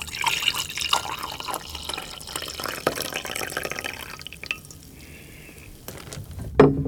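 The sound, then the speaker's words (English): Coffee pours into a mug decorated with a little cat in a steady, splashing stream for several seconds, then tapers into quieter trickles before a brief clink near the end. No one speaks. “Let me pour you this glass here.”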